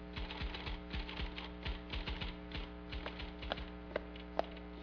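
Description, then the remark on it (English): Rapid, irregular clacking of typewriter keys as a letter is typed, steady, with a couple of sharper strikes near the end over a faint low hum. “She then begins typing a new letter.”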